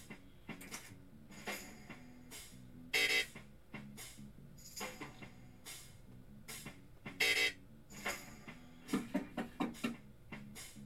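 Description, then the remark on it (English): A car alarm blares next door, cycling through a repeating pattern of honks, whoops and sharp electronic bursts, with two louder blasts standing out before a rapid series of short beeps. “Well, they are car alarm terrorists.”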